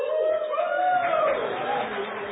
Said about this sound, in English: I was waiting for that time release cheer right there from the choir.